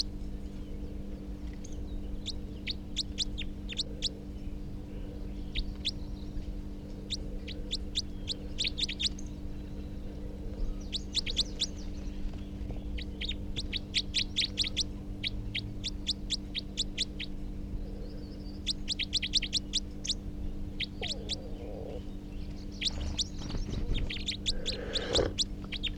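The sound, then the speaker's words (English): A second wild male bird gives bursts of rapid, high-pitched type 4 calls, repeated in quick runs with short pauses, over a steady low hum of background noise. “So recording the new wild, the second wild male type 4, who's giving rapid type 4 calls.”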